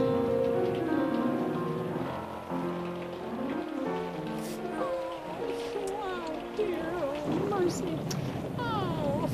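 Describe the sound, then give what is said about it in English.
Steady rain hisses throughout at a constant level, forming a dense wash of noise beneath louder tonal sounds and voice-like wavering tones that rise and fall over it. “The rain ruined my painting.”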